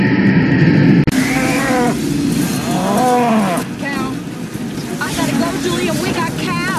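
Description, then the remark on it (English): Several cows moo repeatedly, their long drawn-out calls rising and falling, layered over a steady rushing background like wind or churning water. “We got cows.”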